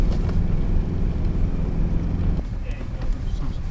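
A car engine labours at low speed in slow four-wheel drive, climbing a steep underground slope 350 metres deep that rises 1 metre every 7 metres. It gives a deep, steady rumble with a humming tone that drops away partway through while the rough drone carries on.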